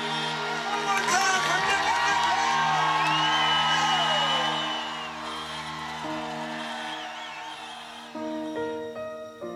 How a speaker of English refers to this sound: The feeling coming down the finish line at Leahy Drive, it's just an awesome experience. With the crowd there, all the excitement, the noise, and the announcers announcing all that, the adrenaline just gets flowing.